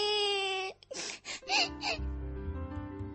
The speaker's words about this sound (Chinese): 寻云杰说完就回厨房去了，寻可然的哭声随着寻云杰消失在视线里戛然而止。